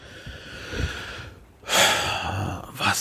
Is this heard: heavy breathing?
yes